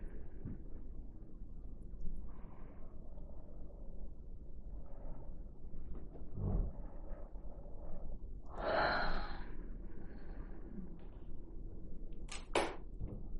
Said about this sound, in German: Wenn hier gegähnt wird, ist einfach Energie, die durchfließt.